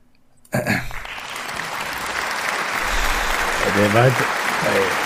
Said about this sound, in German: Der war der langsamste Applaus, den ich je gehört habe.